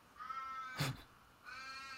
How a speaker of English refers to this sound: Can I just check? Can you hear the crows that are going off outside my window?